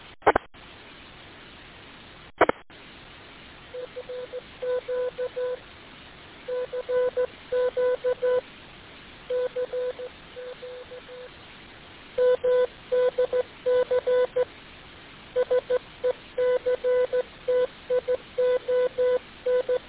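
A steady, mid-pitched beeping tone keys on and off in short dots and longer dashes, spelling out Morse code over a faint hiss of radio-like background noise, with no voices.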